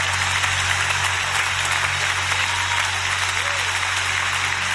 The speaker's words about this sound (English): Clap your hands like you're not at the Masters. Clap your hands like what God spoke. There you go. Clap your hands. I'm going to need 13 of y'all. I'm going to need 30 of y'all. I'm going to need somebody to clap your hands.